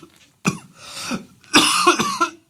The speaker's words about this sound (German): Entschuldigung. Oh, das schneide ich nicht raus, damit die Leute dein rotgesichtiges Husten leiden. Wenn die Leute wüssten, wie ich dabei schwitze.